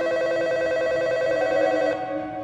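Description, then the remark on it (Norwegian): A telephone in a motel room rings at about 11 at night with a steady, bright electronic tone that holds for about two seconds before cutting off, fairly loud, with no voices. “Når klokka var rundt 11 på kvelden, så ringte telefonen på rommet.”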